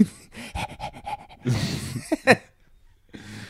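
A pug pants in quick, rhythmic huffs, followed by heavier snuffling breaths and a brief high-pitched whimper, then quieter panting resumes.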